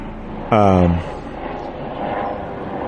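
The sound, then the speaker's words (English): An airplane passing overhead makes a steady, broad roar that fills the whole stretch at moderate loudness. A short, loud tonal sound cuts in briefly near the start. “Oh, sorry, plane.”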